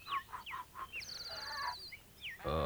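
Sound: bird calling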